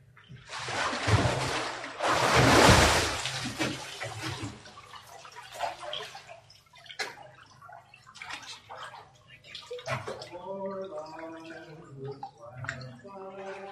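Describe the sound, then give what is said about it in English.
A loud surge of splashing and sloshing water as someone is plunged under and lifted out during a baptism by immersion, followed by softer dripping and trickling while voices murmur in the background. “The water's fine. If anybody else wants to come, today's a good day to be baptized.”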